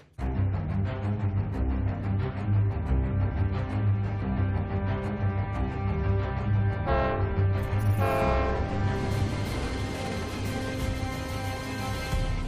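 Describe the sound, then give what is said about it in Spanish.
A train rumbles past, its horn blaring in a long, loud, continuous blast, with the roar of the cars growing noisier and more rushing toward the end. “Pasaron 2 trenes, el primero era demasiado de noche y ni siquiera se percató de que había un cuerpo en la vía”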